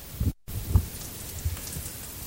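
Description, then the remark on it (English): Steady crackling hiss of asparagus bits sautéing gently in butter in a pan, a dense patter of tiny pops with a few louder low thumps, no voices; it cuts out briefly near the start before resuming. “You might do any other sort of pasta, and you can hear my asparagus cooking.”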